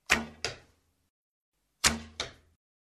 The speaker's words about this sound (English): "You two," said the sheriff, "you can have three arrows each. The one with the highest score will be the winner." Each man fired his first arrow.